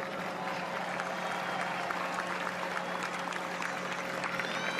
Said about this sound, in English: Thanks to everybody, and if we can have a round of applause, please.